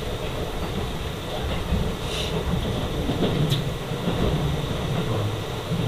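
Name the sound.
train running on rails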